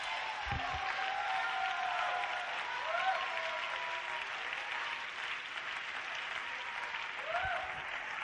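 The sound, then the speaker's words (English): A crowd applauds steadily for several seconds, a dense wash of clapping hands, with a few faint voices and whoops rising now and then above it. “Don't clap.”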